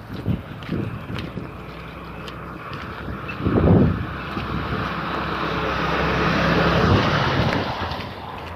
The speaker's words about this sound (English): That's not my normal mailman. Mail truck just drove by and I waved to him. It's not my normal mail person.